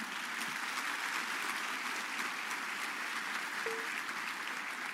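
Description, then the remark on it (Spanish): An audience applauds Jesus, a steady, dense, continuous wash of many hands clapping at an even loudness throughout, with no speech over it. “Aplauda a Jesús.”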